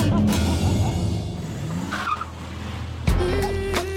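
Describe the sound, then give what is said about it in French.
A Porsche sports car engine roars loudly and continuously while tires screech, with a sharp squeal around the middle and a fresh burst of acceleration near the end, intense. “Je me suis acheté la dernière Porsche. La X triple X 3000, ça s'arrache”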